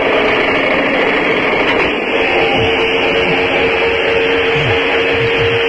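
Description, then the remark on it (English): A winch pulls a cow up onto a truck bed, making a loud, steady mechanical whir with a constant humming drone that runs unbroken throughout, with no one speaking. “Can y'all hear that winch?”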